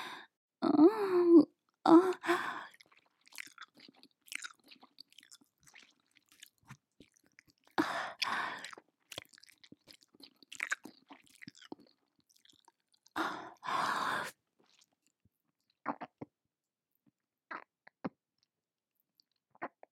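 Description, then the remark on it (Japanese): Wet mouth chewing and squishing sounds come in irregular bursts with short pauses between. A few louder squelching clusters stand out before thinning to scattered soft clicks. “今からぐしゃぐしゃって咀嚼して、一匹の小屋でごっくんしますね。”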